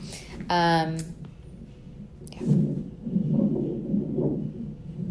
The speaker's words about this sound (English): He's moving around. Do you guys hear that in my belly? And there's his heartbeat. Oh, and he just moved. All the swishing is him moving, and then the heartbeat.